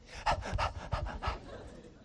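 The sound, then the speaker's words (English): A person imitates a dog panting on a hot day with about five quick, breathy huffs in a steady rhythm, moderately loud, trailing off into quiet. “We were taking our dog to my in-laws, and it was a hot day, and the dog's like, shh, shh, quiet down.”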